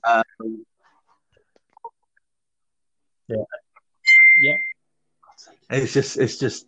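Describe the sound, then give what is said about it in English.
A phone notification chime sounds once, a bright, steady electronic tone lasting about half a second, fairly loud, with people talking briefly before and after it. “I'm not very able to turn that off My next time. God, your phones. Oh, stop it.”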